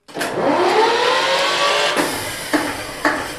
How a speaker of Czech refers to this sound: Já zapnu dekompresor a motor se natočí. Tak, jdeme na to.